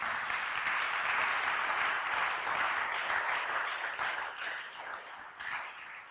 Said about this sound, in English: Oh, clap for Jesus for that.